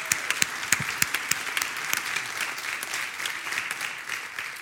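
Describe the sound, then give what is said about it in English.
A spiritual community audience in Minnesota applauds a gorgeous day at the start of its service, sharp individual claps at first that quickly blend into a steady, even wash of clapping lasting several seconds, with no voices over it. “Let's applaud this day.”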